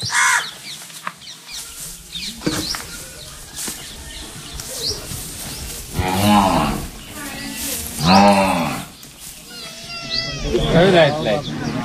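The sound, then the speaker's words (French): A black goat bleats loudly right beside the microphone while trying to get at the microphone cable, three wavering cries a couple of seconds apart, over a busy outdoor background with faint voices and chirps. “Alors là, il y a une chèvre noire qui est en train d'essayer de boucher le fil de mon micro.”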